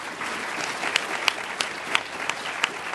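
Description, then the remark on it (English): A room full of people at a wine tasting evening claps steadily for sommelier Mark, a dense wash of hand claps with a few sharper individual claps popping out, sustained throughout. “A round of applause for Mark.”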